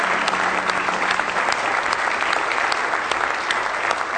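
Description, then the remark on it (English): An audience in the house of the Lord claps in praise at a service tonight, a dense, steady wash of many hands with sharp individual claps standing out, loud and sustained throughout with no speech. “Well, let's just give him a real good hand clap of praise if you love him tonight.”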